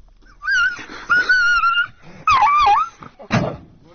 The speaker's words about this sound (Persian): تصاویری که حاکی از آزار دیدن یک سگ توسط افرادی است که به ظاهر سگ به اونها تعلق داره و اونها شکارچی هستند. صدای این سگ بسیار دلخراش بوده که لحظاتی از این صدا رو میتونیم بشنویم.